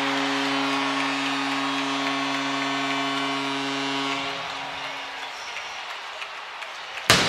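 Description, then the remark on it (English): A roaring arena crowd with a steady low horn tone that fades after about four seconds, then a single sharp goal cannon blast cracks out near the end over the cheering, the first of the night, after Boone Jenner scores to give the Columbus Blue Jackets a 1-0 lead in the first period. “Well, there's the cannon, the first one of the night.”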